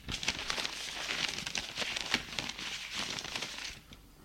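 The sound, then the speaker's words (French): A pile of prescriptions and social security papers is picked up from the top of a desk, producing continuous crinkling and rustling with sharp crackly bursts over about four seconds, then fading out. No one speaks. “prend du dessus du bureau une pile d'ordonnances et de papiers pour la sécurité sociale.”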